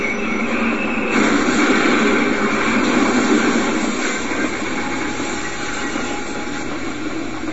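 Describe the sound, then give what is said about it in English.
A heavy freight train laden with oil rumbles steadily into a tunnel, a dense continuous roar with hissing, grinding noise layered on top, holding a constant loudness throughout with no voices. “But before the train's crew can raise the alarm, a freight train laden with oil rumbles into the tunnel, plowing head-on into the derailed train.”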